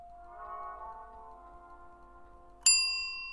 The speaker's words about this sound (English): The elevator stops. The doors slide open like a stage curtain, and the little bell announces my arrival.